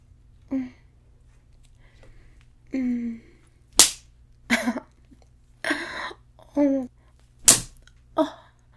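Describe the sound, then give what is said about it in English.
A few sharp slaps of a hand striking a thigh land irregularly, interspersed with short breathy vocal sounds and gasps over a low steady hum. “Did that hurt? When I slap your thigh?”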